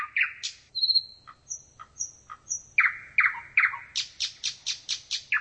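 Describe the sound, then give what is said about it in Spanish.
Small birds sing and chirp in warm sunshine outside the ticket booths of Prague Zoo, in quick bursts with high whistled notes and a rapid series of sharp, repeated calls at the end, over a faint low background hum. “El sol calienta, los pajaritos cantan y nosotros hacemos cola.”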